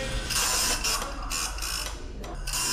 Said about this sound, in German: So redet Türen im Gehlenstock, wenn man sie auftut. An der unteren Kante hat es eine dünne Plastikzunge, die über einen Metallbogen fährt. Ein Bogen mit Rillen.